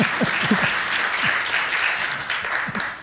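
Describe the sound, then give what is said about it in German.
A crowd applauds steadily, dense overlapping claps forming a continuous wash of sound at an even loudness throughout, with no voices rising above it. “Klatschen Sie ruhig.”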